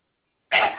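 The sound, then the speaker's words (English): A single sudden sneeze bursts out after a moment of silence, sharp, breathy and fairly loud, with no talking around it. “Bless you.”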